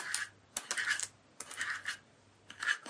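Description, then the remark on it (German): Scratching on parchment paper, heard through the receiver of a homemade toy telephone: dry, papery scratching comes in several rustling bursts with short pauses between them, fairly clear, with no voices. “kratzt auf dem Pergamentpapier herum”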